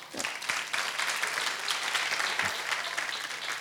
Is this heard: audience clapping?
yes